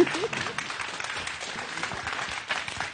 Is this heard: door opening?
no